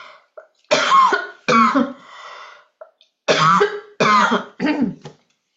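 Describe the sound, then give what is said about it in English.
Several loud coughs arrive in two quick clusters, harsh bursts separated by brief pauses, with a throat-clearing rasp between them and no talking. “I think I have to cough for a moment.”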